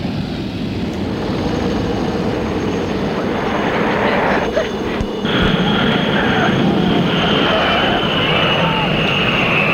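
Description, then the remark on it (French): An airplane landing: a loud, continuous engine roar and rushing rumble fills the whole stretch, briefly dipping about halfway before swelling again with a brighter whine on top. “L'avion est en train d'atterrir.”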